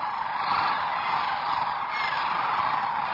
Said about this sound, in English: At this time of year, Bosque del Apache National Wildlife Refuge in south-central New Mexico is a birder's paradise. Many rise early to witness the magnificent spectacle of the sunrise flyout of some 14,000 sandhill cranes.